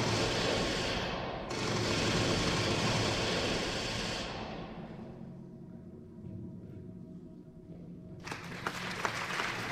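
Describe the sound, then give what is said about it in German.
A theatre audience at the Odeon Theatre in Bucharest applauds the actors bowing on stage, a dense, steady wash of clapping that briefly dips, fades and thins midway, then swells back to full, loud applause at the end. “Minutenlang beklatschen die Zuschauer die sich auf der Bühne verbeugenden Schauspieler.”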